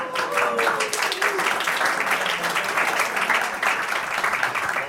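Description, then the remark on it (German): Steady audience applause at an event, thanking the organizers and moderators: a dense wash of many hands clapping at once, loud and sustained for the whole stretch with a faint tonal whistle early on. “Nochmal bitte großen Applaus.”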